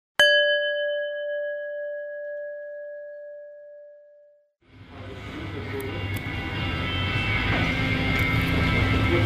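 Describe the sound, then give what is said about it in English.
A single clear bell ding strikes and rings out, its steady tone slowly fading over several seconds before a loud, broad rumbling noise swells in and continues to the end. “Now press pause when you hear the bell, and when you are ready, press play again”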